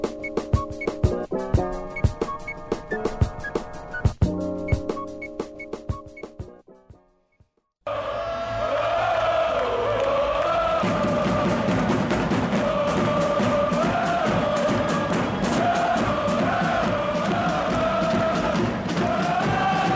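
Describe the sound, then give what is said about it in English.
A short burst of music fades out, then the Kansas City Cauldron, Sporting Kansas City's soccer supporters' section, roars in: a dense, loud crowd cheering and chanting in unison with rising and falling sung tones that continue steadily. “The sound of the Kansas City Cauldron.”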